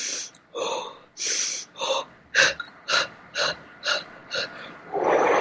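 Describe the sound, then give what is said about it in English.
A person demonstrates pant breathing: rapid, shallow panting, about eight quick breathy puffs in a steady rhythm like a panting dog, ending in a longer, noisier blow-out exhale. “You take pant breaths, like you're panting like a dog.”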